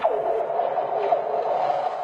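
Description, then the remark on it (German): Frozen lake ice, melting as winter gives way to spring, hisses steadily while eerie sliding tones swoop downward again and again, with faint cracks scattered through the eerie, continuous singing drone. “Ein seltsames Lied ist da draußen in der Natur zu hören. Ein Zischen, ein Knacken, ein Singen, das immer lauter wird.”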